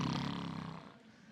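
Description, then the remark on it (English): Someone makes a single raspy, rumbling snore imitation with their voice, loud, trailing off after under a second into quiet background. “Some of us are proud of our snoring.”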